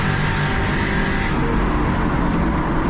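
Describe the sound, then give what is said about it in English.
A loud, sustained stock race car engine roars continuously on a track during a race involving Tony Stewart and Zach Walker, its pitch holding steady and then dropping slightly partway through, dense with no voices. “Into corner number 2, Stewart has a fight on his hands, and there goes Walker trying to spin the car around sideways.”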